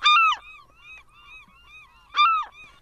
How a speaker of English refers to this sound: You had some audio, too? That's literally a seagull.